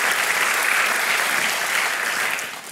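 An audience claps steadily for nearly three seconds, a dense, loud patter of many hands that fades slightly at the end, with no voices on top.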